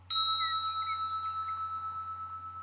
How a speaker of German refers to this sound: Ein Glockenklang, der ungewöhnlich intensiv ist, mit dem langen Nachhall wie einer Tempelglocke gleich. Und dieser Klang berührt deinen Geist und deine Seele.